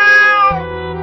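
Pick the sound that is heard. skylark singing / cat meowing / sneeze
cat meowing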